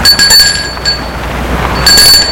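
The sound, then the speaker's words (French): A doorbell at the American embassy rings at 3 p.m. on a Friday in short bursts, three bright, high metallic chimes with a pause before the last, fairly loud over a low background hum, with no voices. “Le vendredi à 15h, Maurice va sonner à l'ambassade américaine.”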